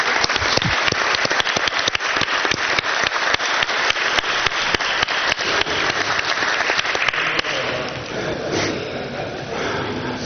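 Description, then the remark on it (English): A crowd at a council meeting applauds steadily, dense overlapping claps for several seconds before thinning out and fading into softer scattered clapping and background noise. “We never gave them a round of applause. Well, let's do that.”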